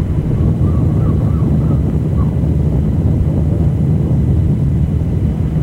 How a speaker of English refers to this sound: This is what the Mersey sound used to be, the cry of gulls and the rumble of a ship's engine on the Mersey River, a wide estuary leading to the deep sea port of Liverpool.